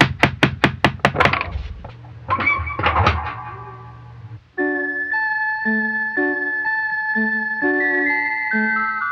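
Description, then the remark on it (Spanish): Six quick, sharp knocks on a door, followed by a few scattered thumps over a low hum, then a bright, tinkling chime-like melody plays steadily to the end. “¿Y si tocamos la puerta?”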